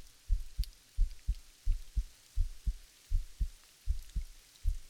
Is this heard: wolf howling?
no